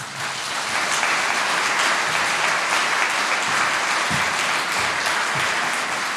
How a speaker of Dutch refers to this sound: En ze is gelukkig ook helemaal voor ons vanavond. Mag ik een groot applaus voor Iris van Herpen.